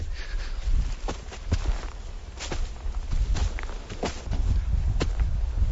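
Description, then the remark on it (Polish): Footsteps climbing the earthen steps of a reinforced embankment, the steps reinforced with wooden beams: irregular thudding and scuffing treads over a constant low rumble of wind, with no one talking. “Wspinamy się do góry po tych kolejnych półkach wzmocnionych drewnianymi belkami.”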